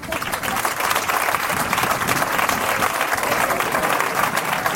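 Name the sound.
loud applause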